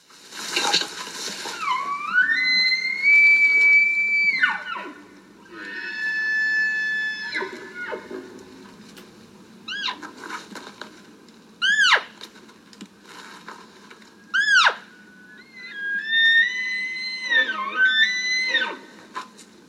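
A series of high, whistling calls of maral red deer stags in the Altai Mountains of Kazakhstan, during a maral hunt. The calls rise and fall in tone, some long and wavering, others short sharp squeals, repeated over a low steady background rumble, with no talking.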